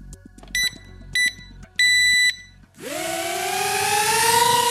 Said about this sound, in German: Vier Rotoren beförden eine tellergrosse Drohne in die Luft. Innerhalb weniger Sekunden schwebt sie hoch über dem Boden.